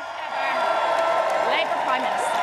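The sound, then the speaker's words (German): A large crowd of hundreds of friends and party colleagues cheers loudly and continuously outside 10 Downing Street in London, welcoming Keir Starmer as the new Labour Prime Minister, a dense wash of many voices with scattered whoops and shouts rising above it, sustained throughout. “Die BBC-Reporterin kam kaum gegen den Jubel an.”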